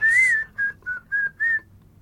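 A person whistles a short tune of five notes, the first long and slightly rising, the rest shorter and evenly spaced, clear and close with no talking.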